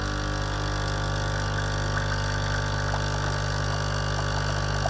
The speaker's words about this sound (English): Okay, a Dolce Gusto, ladies and gentlemen. Emma puts this forward as Kent's noisiest appliance.